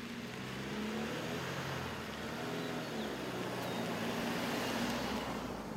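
A car drives steadily along a road on a 31-mile trip north to Bedford, its engine humming low with a continuous rush of tire and road noise, with no one talking.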